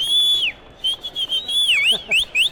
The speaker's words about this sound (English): … has developed a solid stadium whistle over the years